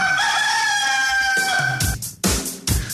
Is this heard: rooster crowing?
yes